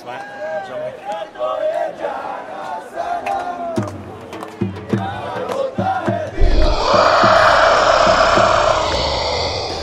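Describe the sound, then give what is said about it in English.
A cricket crowd at the MCG, on day three of the Boxing Day Test, shouts and chants in scattered bursts as Ishan Sharma bowls the opening balls, then erupts into a loud, sustained roar of cheering that carries on to the end. “We're actually at the MCG today, day three of the Boxing Day Test.”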